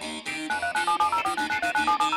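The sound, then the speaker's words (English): A telephone rings for an incoming call with a rapid, pulsing electronic trill that repeats steadily for about two seconds. It is loud, and no one speaks. “We got a call.”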